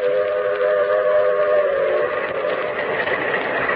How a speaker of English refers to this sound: Oh, snoozing, huh? Traveling on trains makes some people sleepy. Not me. Been on trains all my life. Never get sleepy.